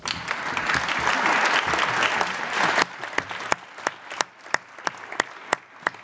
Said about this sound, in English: Thank you. You can applaud now.